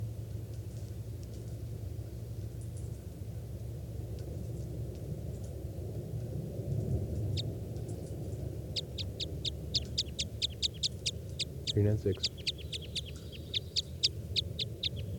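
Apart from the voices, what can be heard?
bird calls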